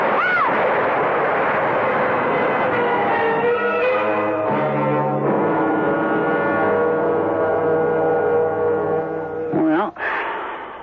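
A tree falls with a loud, sustained roaring crash. Dense rumbling noise runs throughout under whistling, wavering tones, and a sharp squealing sweep comes near the end.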